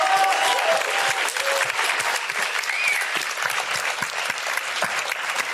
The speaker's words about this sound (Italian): E posso chiedervi un applauso per questo omino?